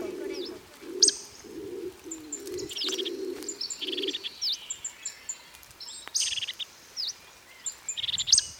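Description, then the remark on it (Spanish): A Bolle's laurel pigeon (paloma rabiche) in the laurel forest of La Gomera gives a run of about six low, hoarse coos in steady rhythm, then falls silent while smaller birds keep chirping and twittering in high, thin notes. “Eco de la Laurisilva, Isla de la Gomera. La paloma Rabiche estaba muy estresada y volaba a toda velocidad de vuelta a su nido.”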